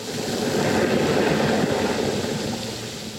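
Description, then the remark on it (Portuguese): A geyser jet blasts out in a loud, steady rushing roar, broad and hissing, holding strong for about three seconds before easing slightly at the end. “Sopra o geyser feito um jato.”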